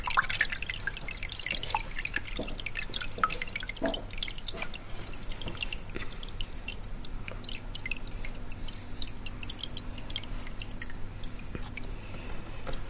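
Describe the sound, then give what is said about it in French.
Water drips and patters steadily from a freshly pulled sheet of handmade paper left to drain off as much water as possible, a dense run of small wet taps and splashes over a low steady hum, with no talking. “Alors après, l'idée c'est que ça s'égoutte le plus possible, que tu enlèves le plus d'eau possible.”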